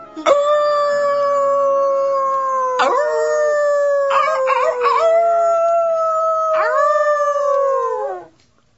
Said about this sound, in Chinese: 罗马拉斯和雷摩斯两兄弟得知自己悲惨的身世，不禁发出了一串串野狼般凄厉的吼声